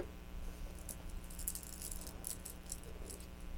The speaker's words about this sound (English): What are these? Those keys. That's right. What do you do with the keys?